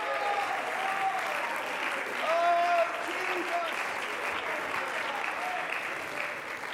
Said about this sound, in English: Why don't you tell it with your worship and tell it with your praise and tell it with a shout from your lips and a clap from your hands and a dance from your feet.